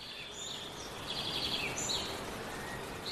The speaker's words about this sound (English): And it's really nice to have a space where you can barely hear the traffic and all the noise from the street, no? But you can come here, listen to the birds, and relax.